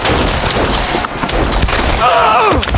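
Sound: gunfire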